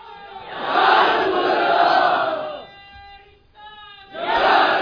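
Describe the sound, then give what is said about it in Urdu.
A large crowd at a speech chants a slogan in loud, roaring unison with hands raised, breaks off while a single voice from the back calls out a short line, then surges back in with another massed shout. “یہ پیچھے سے کوئی نعرہ لگائے اور ہاتھ اٹھا کر لگائے ان سب کا.”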